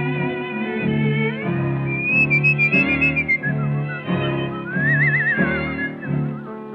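A bright, melodic whistled tune with wavering vibrato rises and falls over a steady instrumental accompaniment, clear, with no voices.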